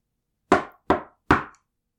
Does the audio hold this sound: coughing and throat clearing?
no